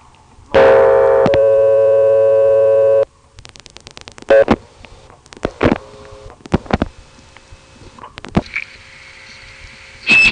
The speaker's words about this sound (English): Now I'm going to dial digits like 2 and 6